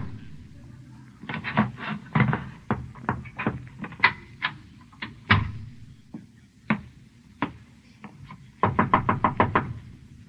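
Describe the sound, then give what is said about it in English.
Someone raps on a door in quick bursts of sharp knocks, a rapid cluster early on, scattered single knocks in between, then another fast flurry near the end. “Who is it? It's me. The door's unlocked.”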